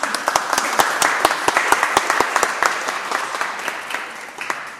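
An audience applauds steadily, with many overlapping claps forming a dense, bright patter and a few sharper individual claps standing out, slowly tapering in loudness toward the end.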